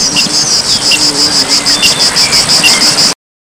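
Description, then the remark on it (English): A loud, shrill drone of cicadas pulses rapidly and evenly for about three seconds, with no voices, then cuts off abruptly. “the bumblebees collecting pollen, the flies doing their best to annoy you, and the shrill of the cicadas.”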